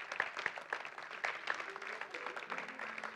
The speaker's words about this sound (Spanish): Démosle un fuerte aplauso por estas dos niñas aquí.